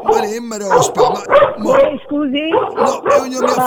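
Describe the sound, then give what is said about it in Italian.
A dog barks and yips repeatedly in quick, uneven bursts, loud, with short whiny notes between barks and little pause across the stretch. “Io non mi ha fatto nulla, ecco, di sto cane.”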